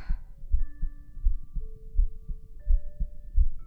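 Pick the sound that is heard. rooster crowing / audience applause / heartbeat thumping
heartbeat thumping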